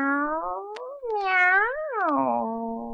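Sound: cat meowing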